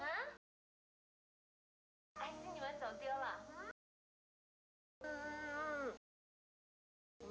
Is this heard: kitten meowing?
yes